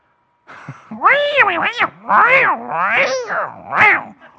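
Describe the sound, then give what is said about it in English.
A person mimics a cat fight, likened to electric guitar in rock music, with a rapid string of loud, wavering yowls and screeches that rise and fall in pitch, with no other talking. “You know, when you have a cat fight going on,”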